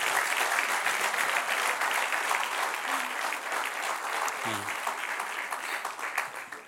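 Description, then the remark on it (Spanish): An audience at a church service applauds steadily, a dense, unbroken wash of many hands clapping that holds at a fairly loud, even level for several seconds, with a faint low voice briefly audible underneath. “Dele un aplauso al que rey.”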